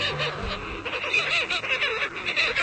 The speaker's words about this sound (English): Seabirds, like this short-tailed shearwater, spend most of their lives on the open ocean.